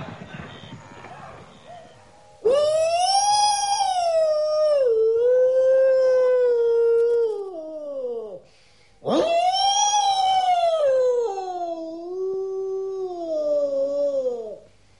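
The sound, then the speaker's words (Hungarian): Wolves howl in two long, loud calls, each rising quickly then sliding slowly downward before fading, with a brief pause between them and faint rustling noise before the first. “Nézzétek meg jól, farkasok!”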